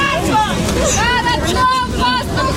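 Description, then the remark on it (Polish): Relatives shout and call out joyfully over one another, calling the names of returning soldiers, as a bus carrying several dozen soldiers freed from Russian captivity arrives at a housing estate in Chernihiv. The voices are loud, with the low engine rumble of the bus underneath throughout. “Kiedy na jedno z osiedli w Czernichowie podjechał autobus, w którym było kilkudziesięciu żołnierzy zwolnionych z rosyjskiej niewoli, rozległy się radosne krzyki bliskich i imiona wracających do domu.”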